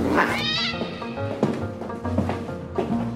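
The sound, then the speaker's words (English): A cat lets out a loud, drawn-out yowl that rises sharply at the start, then continues with strained, wavering wails and a few shorter cries as it is thrown out of a window, with no one talking. “He's like, did he really just throw my cat out of the window?”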